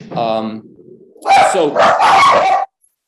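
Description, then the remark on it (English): Dogs bark loudly, a short harmonic yelp followed by a cluster of sharp, overlapping barks in quick succession, with a brief murmur of a voice between them. “Sorry, dogs.”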